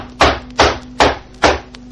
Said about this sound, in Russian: Кто-то стучит. Сейчас открою.